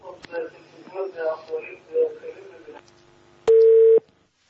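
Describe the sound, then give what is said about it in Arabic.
A steady, loud telephone line tone sounds for about half a second right after a stretch of muffled, indistinct talk over a phone connection with a caller from Jordan to a religious call-in program, then cuts off abruptly as the call drops. “يبدو أن الاتصال انقطع أحبتي الكرام الأخيار.”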